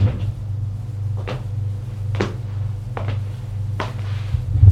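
A woman shuts a door behind a visitor who has just come in, giving a few sharp knocks and thuds spread over several seconds above a steady low hum, with no one talking.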